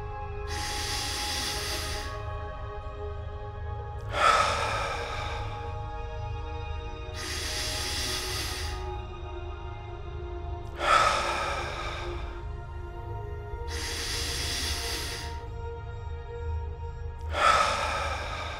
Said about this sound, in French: Concentrez votre attention sur votre respiration. Respirez profondément.